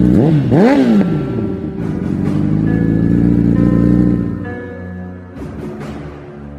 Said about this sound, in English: I'm in my fucking car. So the audio is going to be a little different today. Couldn't do it at home.